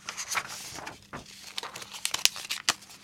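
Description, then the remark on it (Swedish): A paper lottery slip, drawn from a jar in a prize draw, is unfolded, giving a string of dry crinkles and sharp crackles that come in irregular bursts, with no talking. “Och så drar vi två till som kommer att få varsin t-shirt. På nästa lapp står det nummer 6.”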